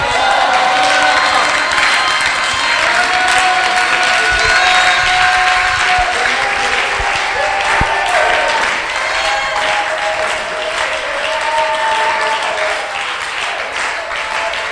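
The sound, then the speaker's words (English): A large audience claps and cheers together, urged to clap and shout in the Holy Ghost, a dense, steady wash of applause with scattered shouts and whoops rising over it, sustained throughout at a loud level. “Come on, put your hands to it. Is everybody clapping? Some people are clapping jolly, jolly.”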